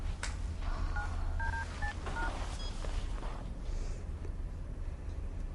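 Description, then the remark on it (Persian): A handful of short electronic keypad beeps as a phone number is dialed, quick and slightly uneven in rhythm, heard over a steady low background hum with no talking. “برو مامان، برو تلفن رو بیار ببینم.”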